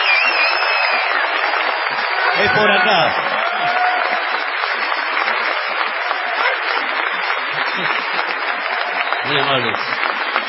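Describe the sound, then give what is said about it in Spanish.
A sustained ovation for the performer Patricio Bartón from an audience at the Teatro Broadway in Rosario. Dense, steady clapping fills the whole stretch, with scattered crowd voices and a brief spoken remark near the start rising over the applause. “Vamos a tributar una ovación desmesurada a Patricio Bartón.”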